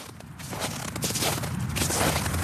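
Steady crunching footsteps of a woman trudging through snow past apartment blocks and small shops in a Stockholm neighborhood, a muffled rhythmic crunch over a constant low rumble of cold wind, with no voices.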